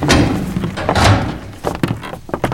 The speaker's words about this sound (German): Die drei Fragezeichen warteten mit Nero am Hinterausgang. Es dauerte über 15 Minuten, bis sich schließlich die Tür öffnete.